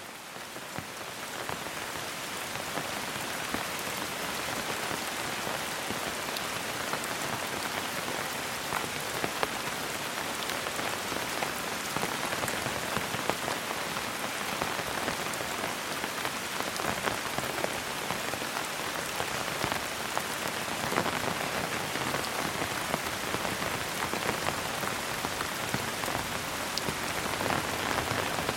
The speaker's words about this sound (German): Du gehst weiter. Schritt für Schritt, begleitet vom gleichmäßigen Prasseln des Regens auf deinem Schirm.